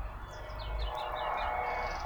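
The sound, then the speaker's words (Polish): Birds chirp and sing in quick, repeated high calls over a steady low rumble of background noise, fairly soft, with no one talking. “Jak słyszysz pewnie na tym nagraniu, dwa światy. Natura, ptaki, budzące się życie.”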